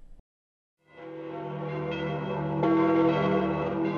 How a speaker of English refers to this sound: Pope Benedict XVI's second day on Spanish soil began to the sound of pealing bells ringing since early morning from the chapel of the Augustinian monastery housed within the majestic El Escorial complex.